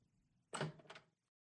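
door being opened

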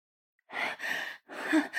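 labored gasping breaths

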